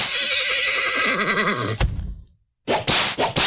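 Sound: horse neighing sound effect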